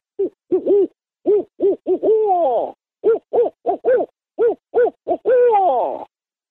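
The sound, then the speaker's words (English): A person imitates a barred owl's hooting call, rendered as 'who cooks for you', giving two rhythmic series of short, arched hoots, each ending in a longer, drawn-out descending hoot, loud with no other sounds. “I can do the barred owl.”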